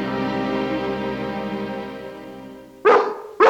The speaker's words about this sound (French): Il fait appel à l'aboiement du soir, un moyen de communication souvent utilisé par nos amis les chiens.